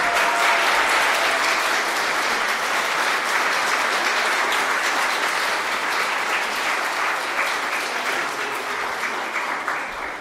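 Sustained applause from a large audience, steady and loud throughout, a dense wash of many hands clapping that tapers only slightly near the end, for the winner of a prize for the best tip.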